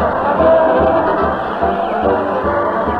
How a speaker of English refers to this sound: It's Town Hall tonight. Fred Allen is the Regent's weekly parade to the old town hall. Fred's hurling kisses to the crowd, and the crowd is hurling insults at the mighty Allen Art players. Let's join the happy throng.